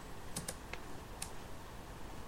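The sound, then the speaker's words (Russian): A few quiet, sharp computer keyboard key clicks, three close together then one more after a short pause, with no talking, over a faint steady background hiss. “Теперь нужно нажать один раз Tab.”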